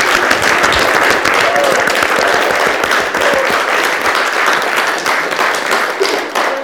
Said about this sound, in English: Thank you so much. They do it because they love you. They don't do it for the claps, but it's nice to clap them anyway, isn't it?